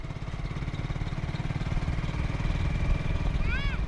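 A small motorcycle engine runs steadily nearby, its low, rapid putter continuing unbroken for the whole stretch, with a brief high chirp near the end.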